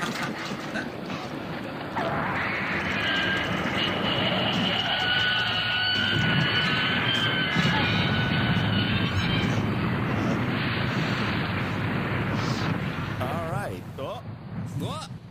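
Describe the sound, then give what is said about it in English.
A loud train wreck sound effect: a sustained roaring rumble with high, shrieking metallic squeals layered on top, lasting about twelve seconds before fading into scattered clatter. “Do we have a train wreck sound effect? Yes, I believe we do.”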